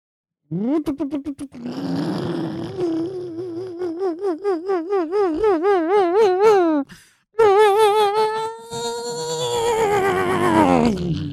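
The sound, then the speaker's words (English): A voice imitates a struggling engine revving up, a wobbling, sputtering drone that climbs in pitch, cuts out briefly, then restarts and strains upward again, loud and sustained for about eleven seconds. “Let me try and step on the gas a little.”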